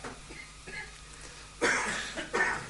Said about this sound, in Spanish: no sé si tose por eso.